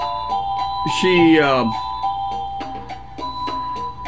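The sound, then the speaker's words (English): Leanne plays an electronic keyboard, a simple melody of short, steady tonal notes in a bright, chime-like timbre, with a brief wavering, sliding passage early on before the even notes resume. “Okay, here's Leanne playing the keyboard, but”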